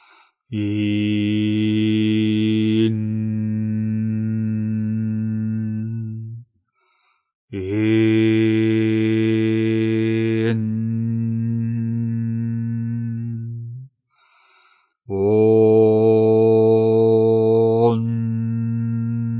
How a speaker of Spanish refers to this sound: En este momento vamos a exclusivamente dedicarnos a trabajar con esta serie de mantras, que es combinando las cinco primeras vocales con la letra N para darle un sonido acampanado. De esta forma.